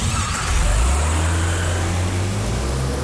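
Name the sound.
car engine revving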